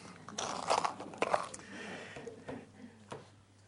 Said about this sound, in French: Qu'est-ce qui fait du bruit dans mon... C'est ma boîte de tic-tac.